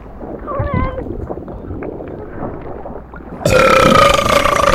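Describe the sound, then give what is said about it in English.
A loud, drawn-out, gurgling burp that brings up clothing (a torn bra) rumbles for a few seconds, then gives way to a sudden burst of bright, hissing noise with a steady whine running through it. “I don't normally burp up clothes.”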